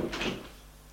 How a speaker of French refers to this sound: Elle entend le portail qui s'est ouvert,